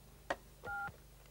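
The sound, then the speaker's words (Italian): A sharp click, then a single short two-pitch telephone call-waiting beep lasting about a quarter second, signalling another incoming call while on the phone. Quiet background, no voices. “Oh, scusa, un'altra telefonata, aspetta.”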